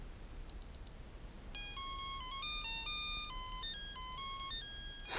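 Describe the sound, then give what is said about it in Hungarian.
Two quick electronic beeps, then a tinny, high-pitched melody plays steadily in square-wave tones from a fingernail-sized metal plate chip inside a quartz watch, stepping up and down through a tune with no one talking. “Egy körömhegynyi fémlap egy egész dalt el tud játszani.”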